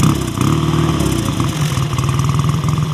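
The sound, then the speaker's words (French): A vintage Swiss Universal motorcycle engine from Lucerne, one of a pair from 1929 and 1935, runs loud, its low thudding pulses speeding up into a rapid, steady putter as it revs, with a broad mechanical rattle above. “Ce sont deux motos de Suisse. Ça, c'est un de l'année 29 et celui-là, c'est de l'année 35.”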